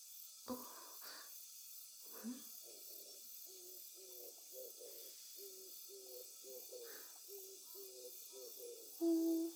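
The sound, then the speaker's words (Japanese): Low, soft hooting calls from a mated pair of birds at dusk repeat in a steady, rolling rhythm, fairly quiet, over a constant high hiss, with one louder hoot at the end. “夫婦でほっほー。もう夕暮れですね。”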